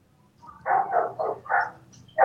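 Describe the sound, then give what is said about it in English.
Dogs bark in a quick run of four or five short, evenly spaced barks, moderately loud and slightly muffled, with no talking over them. “I hear dogs.”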